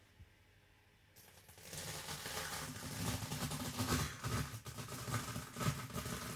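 After a moment of near-silence, a dense, continuous crackling and crunching starts up as cornflakes are crushed and squeezed, growing louder and staying busy with sharp irregular crackles to the end.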